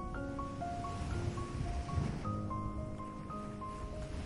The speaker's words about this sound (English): Any tension you may have been carrying begins to ease little by little, as though the gentle rhythm of the waves is slowly washing it out of you.